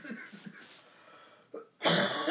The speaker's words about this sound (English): Oh, pardon my ugly cough, guys.